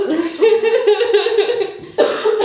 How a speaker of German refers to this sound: Man hustet nicht. Aber ja, wohl gehustet.